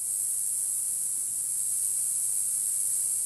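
Cicadas make a steady, high-pitched buzzing drone that holds unbroken for the whole few seconds, with a faint low hum underneath and no voices.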